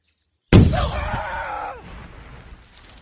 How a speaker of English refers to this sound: Landmines. Earth and small stones rained down on the runners.